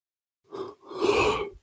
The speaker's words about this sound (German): Das war das Gähnen zum Abschluss. Ja. Ich hoffe, ich denke dran, das rauszuschneiden.